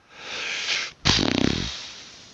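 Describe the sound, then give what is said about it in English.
A fart noise: an airy hiss, a brief gap, then a louder rumbling, sputtering burst with rapid fluttering pulses that trails off, with no talking. “A fart noise.”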